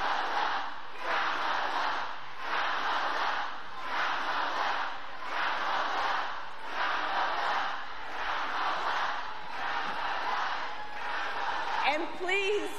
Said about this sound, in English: Project 2025. Now the crowd tries to shout down the protesters, and Harris is smiling.